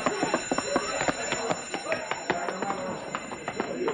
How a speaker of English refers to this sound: Hey, he stepped on the alarm.